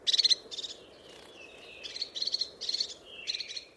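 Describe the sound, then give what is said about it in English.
Crested tit calls: high, buzzy trilled bursts repeated in a quick series of about six, each a rapid stuttering rattle, clear over a low steady background hum. “I love getting to watch the crested tits, and they're just gorgeous little things, and the way that they use their crests for signalling and just hearing them is a beautiful thing.”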